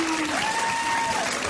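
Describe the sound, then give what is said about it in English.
A large audience roars with applause as Bill O'Reilly is introduced as 'Papa Bear', and a long drawn-out crowd call rises in pitch and holds steady over the noise. It sounds like booing, but the talk calls it a 'boo, Papa Bear' call rather than booing. “Listen to the intro that the audience gave O'Reilly last night.”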